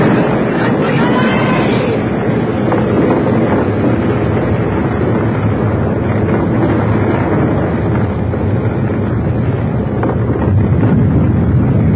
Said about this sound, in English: Good Lord! What was that? Oh, it's nothing. It's just a cliff. There's been a lot of rain recently. Must have weakened the overhang.